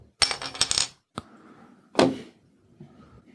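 A bottle of Bitburger beer is opened: a quick run of metallic clinks and rattles, a small click, then a sharp pop with a short fizzy hiss fading into quiet.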